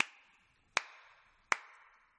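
Three sharp hand claps land at a steady, even pace, each crisp and bright with a short ringing tail fading out behind it. No voices are heard.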